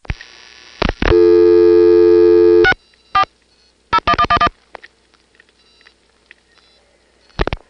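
Telephone trunk line tones on a call to a number in Quantico, Virginia: a short blip, then a sustained harmonic-rich tone for about a second and a half, followed by a quick burst of separate tone pulses, with faint line noise and clicks between, before a not-in-service intercept recording.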